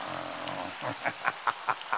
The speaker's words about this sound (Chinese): 掌声像雷鸣般的响起